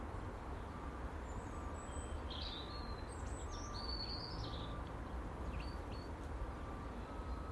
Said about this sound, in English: I just closed my eyes, listening to the birds, nature.